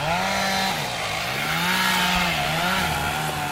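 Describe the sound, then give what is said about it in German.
A chainsaw runs steadily at full throttle as a tree crew clears underbrush and fells trees, its loud buzzing engine pitch dipping and rising slightly as it cuts, with no talking over it. “nun ihren Schutzhelm und ihre Schutzbrille auf und lichtet mit einer Baumcrew das Unterholz, fällt Bäume, schult Nachbarn in der Brandprävention.”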